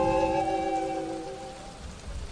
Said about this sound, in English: Suddenly, there was a flash of lightning. Thunder rolled and boomed. The rain began to pour down without end.